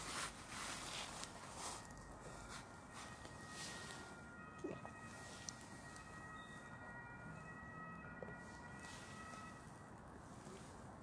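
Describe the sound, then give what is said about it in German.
An ambulance siren sounds faintly, its steady tones sitting beneath a constant wash of wind and street noise, with no one talking. “Jetzt holt uns der Krankenwagen ab, wenn wir so viel gesunde Sachen getrunken haben.”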